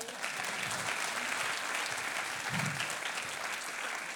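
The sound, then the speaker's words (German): A steady burst of applause from a group, dense rapid clapping that holds at an even level for several seconds, with a faint murmur of voices beneath. “einen Applaus.”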